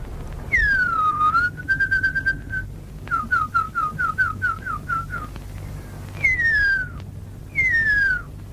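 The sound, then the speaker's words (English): A Maori tracker whistles an imitation of the call of the huia, an extinct New Zealand bird: long descending glides, a steady held note, then a quick run of short chirping notes, ending with two more falling whistles over faint background hiss. “This is a Maori tracker whistling the call of the huia, a New Zealand bird that went extinct from overhunting and habitat loss in the 20th century.”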